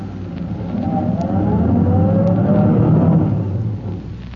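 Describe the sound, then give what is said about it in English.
A car engine rumbles for several seconds as Chief Cody's car emerges from the shadows at the mouth of an alley, its low drone swelling as the motor's pitch climbs, then easing off as the vehicle pulls up. No voices. “He waves a signal with his electric torch and waits for his car to emerge from the shadows.”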